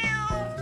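A single short cat meow, clear, with a bright tonal wail that bends slightly in pitch and holds steady loudness through its brief span.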